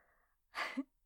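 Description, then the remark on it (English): A single sneeze: a soft, breathy intake followed by a sharp, noisy burst that ends in a brief voiced tail. It is clear, with no talking. “What if I sneeze and it's just a sneeze?”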